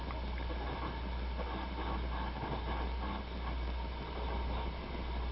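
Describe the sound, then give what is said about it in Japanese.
Steady, unbroken running noise inside the cabin of the Tokaido Shinkansen Nozomi 233 bullet train bound for Shin-Osaka, a deep continuous rumble with a broad airy roar over it, fairly loud and even throughout, with no voices. “今日も東海道新幹線をご利用くださいましてありがとうございます。この電車はのぞみ233号新大阪行きです。”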